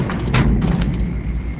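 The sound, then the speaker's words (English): The back door of a metal mine cage holding a group of sandhogs in hard hats and yellow rain slickers slides shut with a rattling metallic scrape and a couple of dull thuds, over a steady low rumble of machinery. “Door down.”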